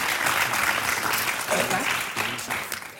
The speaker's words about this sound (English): And a big round of applause